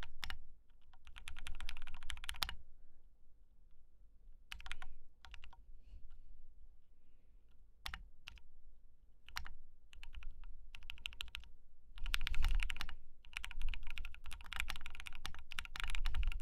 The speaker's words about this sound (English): used to be so jealous of Raina's keyboard, but honestly, I'm not as jealous anymore because my keyboard sounds just as good.